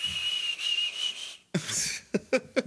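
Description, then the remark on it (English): The video game character Link whistles a single steady, high note for over a second while running, whistling so his stamina does not drain. Then it breaks off into a few quick, punchy thumps and bursts of noise. No one is talking. “So as long as you're running around whistling like an idiot, you can run forever and climb.”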